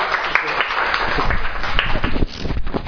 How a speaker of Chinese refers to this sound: 我们将时间交给他，我们掌声欢迎一下。